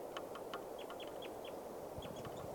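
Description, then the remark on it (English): A bird calls with a quick series of short, high chirps, some clustered in pairs, repeating irregularly over a steady background hiss. “Bird calling right here.”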